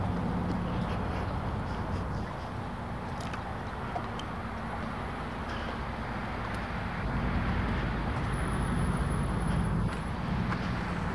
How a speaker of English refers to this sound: More traffic, more noise, more crap. They're doing a number on these roads here. I'm not sure exactly what. Repaving them. I do know what they're doing. It's just, noisy.